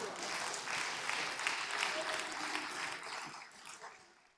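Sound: audience clapping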